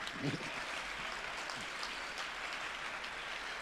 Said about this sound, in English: Also, y'all did some, applaud yourself.